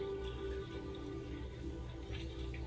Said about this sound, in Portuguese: O barulho da água.